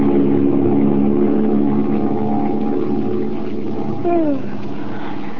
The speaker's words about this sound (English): We find Margot and Lamont flying westward, high above the clouds, in a silver-winged passenger plane.